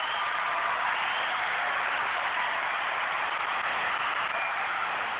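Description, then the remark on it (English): A crowd cheers and roars in a dense, continuous wash of noise that holds a steady, loud level for about five seconds, with no clear voices standing out. “They seem to cheer longer this time.”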